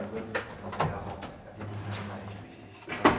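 A heavy door in Rostock is pulled open, with several hollow clunks and knocks spread over a few seconds, a low rumble underneath, and a sharper bang near the end.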